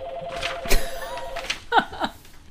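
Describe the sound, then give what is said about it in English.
A telephone rings with a steady electronic warble that holds for about a second and a half, moderately loud, mixed with a few sharp clicks and brief chirping blips. “As an homage to Rico, whose phone rings.”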